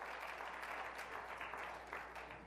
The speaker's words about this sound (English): I'll give Him a good clap offering if you're going to do it. Hallelujah.